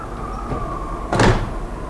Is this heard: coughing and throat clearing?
no